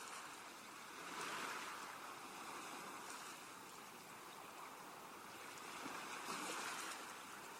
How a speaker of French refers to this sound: Les vagues s'échouent à vos pieds dans un mouvement régulier et vous rafraîchissent délicieusement. Vous appréciez l'écume qu'elles abandonnent sur le sable avant de rejoindre cette mer apaisée, mais tellement vivante.